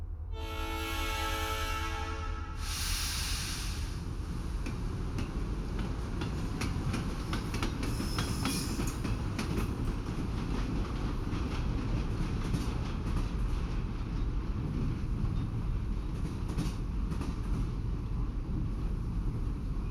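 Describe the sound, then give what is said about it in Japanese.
A steady, continuous rumble of the Kurasata healing sleeper train departing and running on rails, heard from inside with a low droning roar and faint rhythmic clatter, after a brief tonal chime at the start; no one speaks. “それでは癒しの寝台列車クラサター号出発いたします。”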